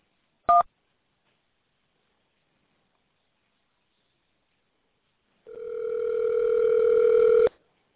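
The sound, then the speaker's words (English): A single short beep from a telephone keypad press during a call to King Arthur's Clock and Jewelry, followed by a few seconds of silence and then a steady, buzzy phone tone that rises slightly in loudness before cutting off. “You must press 1 to talk with a salesperson.”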